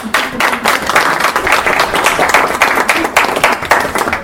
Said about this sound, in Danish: Og så synes jeg, det er et rigtig flot regnskab. Og jeg synes, at vi skal give dem en klapsalve.